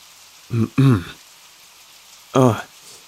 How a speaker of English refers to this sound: You really need to get out of this rain.